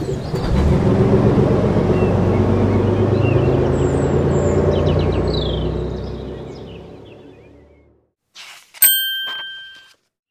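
A bus taking a teacher and children to a fair near the lake: its heavy engine rumbles loudly and steadily, then fades as it drives off. After a moment of quiet, a single bright bell rings out and slowly dies away.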